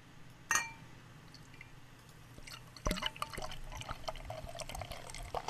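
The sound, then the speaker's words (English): A brief clink, a short pause, then a cloudy orange beer from Knee Deep Brewing of California glugs and splashes steadily into a glass for several seconds, with no one talking. “Let me pour this.”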